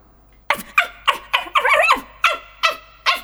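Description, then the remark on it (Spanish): A woman imitates a poodle barking nonstop: about eight sharp, high barks in quick, steady succession, loud, with one longer, rougher yelp in the middle. “vos haces el caniche a la perfección, así que te pido por favor.”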